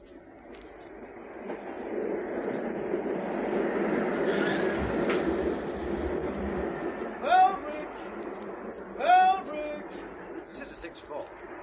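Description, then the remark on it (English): A train rumbles steadily into Fellbridge station, with a high metallic brake squeal midway and a couple of sharp hisses or squeals toward the end, amid a broad mechanical roar. “Now there's the train.”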